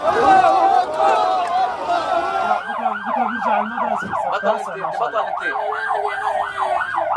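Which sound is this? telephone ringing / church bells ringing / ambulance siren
ambulance siren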